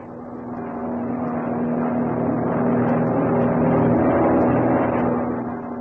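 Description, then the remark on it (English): An airplane engine drones steadily in flight as the plane nears landing, a dense low rumble with a sustained humming tone, holding an even, fairly loud level throughout with no voices. “We'll be landing soon”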